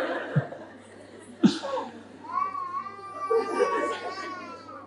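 A baby cries in wavering, high-pitched wails that swell and break, starting with a couple of short sobbing catches before a longer drawn-out cry, moderately loud.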